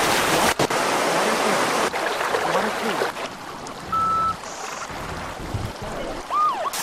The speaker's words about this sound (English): Select an ambience. And we want that waterfall noise.